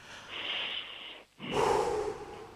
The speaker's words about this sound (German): Sollen wir nochmal gemeinsam richtig tief durchatmen? Ja. Okay, ich zähle bis 3 und dann atmen wir gemeinsam durch, okay? 1, 2, 3.